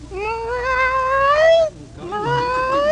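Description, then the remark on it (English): A contestant in a cat-meow imitation contest imitates a cat's meow twice, each a long, drawn-out cry with rising pitch. The first stretches over a second before a short pause, then a second meow climbs higher. “Meow. Meow. Once more. Meow.”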